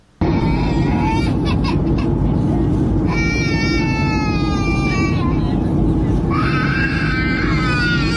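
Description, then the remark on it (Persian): A baby wails in three drawn-out, high-pitched bursts during a passenger flight, over a loud, steady low roar of the aircraft cabin's engine drone, which continues without pause throughout. “ویدئوهای پرشمار در شبکه‌های اجتماعی منتشر شده که نارضایتی برخی از مسافران را از گریه کودکان در هنگام پرواز نشان می‌دهد.”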